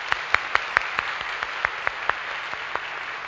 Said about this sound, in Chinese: 但我哋多谢佢哋真係好愿意服侍弟兄姊妹，所以我哋要用掌声多谢佢哋好嘛。